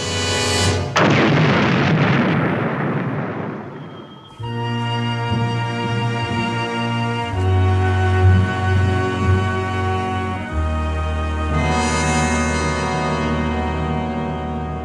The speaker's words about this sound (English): explosion on Elba 2. 0.95. Must have wiped out everything.